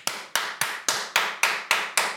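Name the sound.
loud hand clapping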